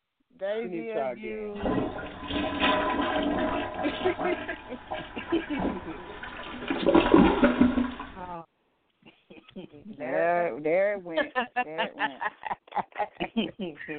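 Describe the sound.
A toilet flushes with a loud, steady rush of water that swells toward the end, lasting about seven seconds, then stops abruptly. A man talks briefly before it and again afterward.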